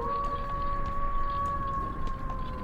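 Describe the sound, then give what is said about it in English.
A wolf howls in one long, steady, unbroken note that holds its pitch for the whole stretch, fairly loud, over a constant low rumble with no voices. “The wolves don't come out until after midnight.”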